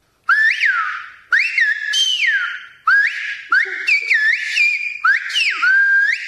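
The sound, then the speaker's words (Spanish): Loud, piercing human whistles in a run of short phrases, each pitch gliding up and down like speech melody: the Silbo whistled language, carried clearly, with brief gaps between bursts and no talking. “Voy a enseñarles a silbar.”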